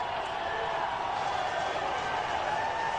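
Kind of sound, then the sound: crowd, stadium crowd cheering wildly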